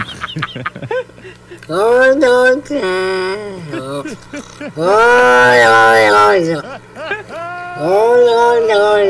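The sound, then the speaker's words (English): A cat named Jack, with a voice deeper than most cats, lets out a series of unusually deep, drawn-out meows, three long loud calls with wavering, rising-and-falling pitch, preceded by a few shorter yowls. “And then, oh, the cat with a super deep meow.”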